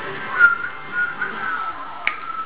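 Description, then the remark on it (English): Someone whistles a thin, wavering tone that drifts in pitch for a couple of seconds, fairly quiet, with a brief sharp click near the end and no talking. “No, go whistle, look.”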